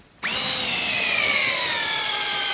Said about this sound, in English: He drills into a bale to get samples to test for nitrates. He wants to make sure there aren't any harmful contaminants from farm fertilizers.